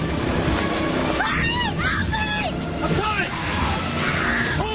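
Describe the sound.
The engines of the boat Sea Dreamer roar steadily as it barrels toward shore over rushing ocean waves, a loud continuous wash of noise, with raised voices shouting and crying out over it.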